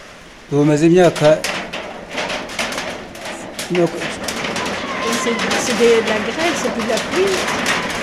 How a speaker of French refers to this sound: C'est de la grêle, c'est de la pluie. Tu entends quelque chose? La grêle.